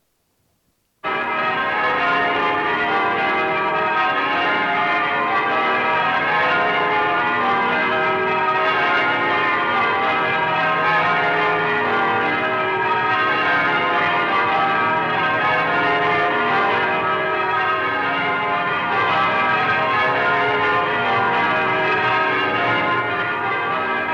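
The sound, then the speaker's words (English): Church bells peal continuously in a dense, overlapping wash of ringing tones, loud and sustained throughout with no voices, starting abruptly after a brief silence; the bells ring out in Canterbury, New Zealand, in celebration of the coronation of Queen Elizabeth. “The bells ring out.”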